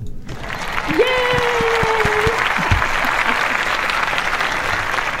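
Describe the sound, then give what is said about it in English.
A crowd applauds steadily for the hosts' 100th live show, dense clapping filling the space for several seconds after a sudden start, with a brief tonal whistle-like note early on and a few voices mixed in. “Let's give a little clap here.”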